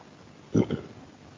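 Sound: sipping water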